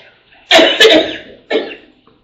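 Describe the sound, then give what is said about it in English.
A woman coughs three times during a council meeting: two harsh, rapid bursts and then a third after a short pause, with no talking around them. “Is she okay? I'm fine. We've got water. Any of you water? I'm good. Cough drop.”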